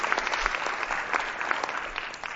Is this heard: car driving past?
no